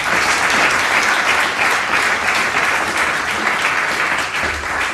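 Sustained audience applause for a professor fills the whole stretch, a dense, steady wash of many hands clapping at an even loudness with no clear pauses and no voices on top.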